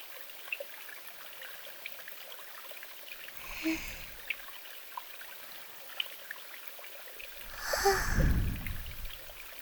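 nature, flowing river water

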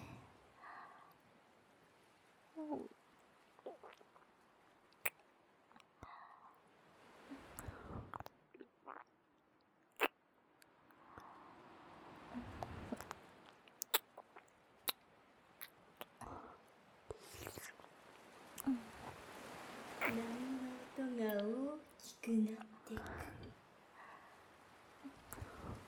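human body sound, ASMR ear licking sounds

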